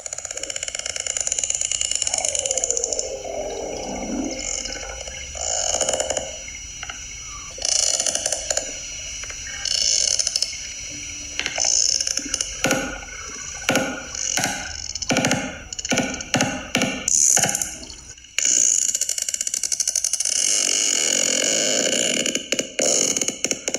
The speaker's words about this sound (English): could you play us a sound cue of a sperm whale communicating?